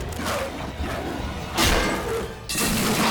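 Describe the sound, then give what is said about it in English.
A heavy frying pan smashes into a dog's head with a loud thud, followed a second later by another forceful crashing hit amid a noisy, busy background. “She grabs a frying pan and smashes the other dog in the head.”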